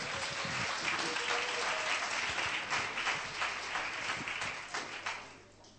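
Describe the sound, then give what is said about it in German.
A crowd breaks into steady, dense applause for a man, many hands clapping together at once, sustained for several seconds before thinning out and fading near the end. “Gebt ihm einen Applaus und ermutigt ihn.”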